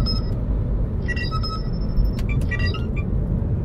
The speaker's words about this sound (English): Oh, hang on. Telephone call.